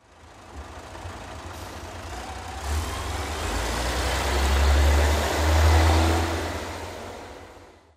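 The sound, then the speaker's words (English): A heavy bus engine rumbles close by, a brief mechanical clunk like doors shutting, then the deep engine noise swells as the vehicle pulls away, with a broad hiss of traffic throughout. “When I'm level with the bus, the doors close in front of me.”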